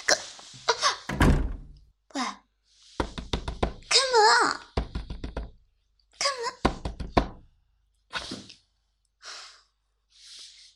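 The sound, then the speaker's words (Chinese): A door shuts with a thud, shutting a person outside, then several bursts of rapid knocking on it, fairly loud, mixed with whiny, moaning vocal sounds and sighs between the knocks. “又把我关门外了。”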